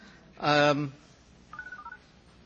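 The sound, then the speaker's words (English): A brief, loud, tonal burst is followed by a rapid run of about five short electronic keypad beeps from a cell phone being turned off at a library event, moderately loud, with no talking over them. “Before we get started, I have to remind you and myself, let's turn off our cell phones.”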